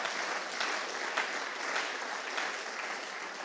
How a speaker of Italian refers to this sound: Facciamo un applauso a Gesù, diamogli gloria.